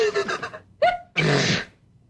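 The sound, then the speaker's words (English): A single loud sneeze: a few halting, voiced intakes build up before a sharp, breathy burst that trails off into quiet. “A pacer can develop la post nasal drip with the wheezes and the sneezes and the sinus, that's really a pip.”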